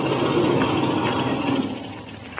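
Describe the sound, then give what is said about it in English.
An aircraft engine idles with a steady, loud rumbling drone that holds evenly for a few seconds, with no voices over it. “Then I'll cut the engine.”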